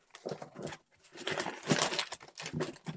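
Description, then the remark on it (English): Crinkly paper rustles and crackles in several bursts as the paper packaging of a Samsung 970 Evo Plus M.2 boot drive is pulled open and unwrapped, with brief pauses between the handling noises. “That's a lot of paper.”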